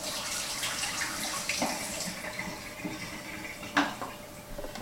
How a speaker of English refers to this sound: I'm just using tap water here, right? Nothing too fancy. I think that's pretty close to 15 seconds. I'm just gonna dump that water out.